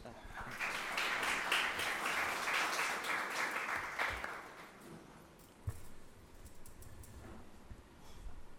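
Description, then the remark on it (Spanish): An audience at the Hay Joven event at the Jorge Tadeo Lozano university bursts into dense, steady applause for speaker Carlos Granés for about four seconds, then it thins out into scattered claps and quiet murmuring. “Un aplauso a él.”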